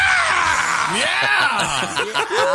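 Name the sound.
scream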